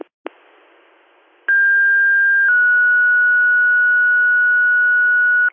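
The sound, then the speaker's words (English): Fire dispatch paging tones over a hissy radio channel, sent for Whelan Fire's brush truck and engine to a smoke investigation: a crackle and low static, then a loud steady tone lasting about a second, shifting into a slightly lower tone held for three seconds. “Do you need another set of tones? Yes, please, another set of tones.”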